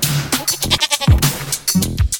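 A goat bleats loudly several times in quick succession, the wavering, nasal cries overlapping one another, with no voices in the background.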